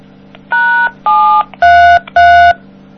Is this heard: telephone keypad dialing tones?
yes